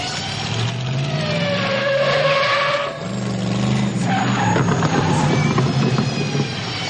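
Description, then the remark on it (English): In a film scene where Marty crashes a car into the movie theater, a car engine roars and tires screech in a long, loud skid, with a rising whine and a brief lull before grinding, rattling noise continues. No one speaks. “But I love when Marty crashes into the movie theater, in the prison.”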